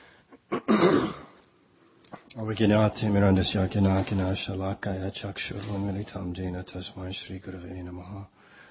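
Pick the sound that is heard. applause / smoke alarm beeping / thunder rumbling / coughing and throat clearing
coughing and throat clearing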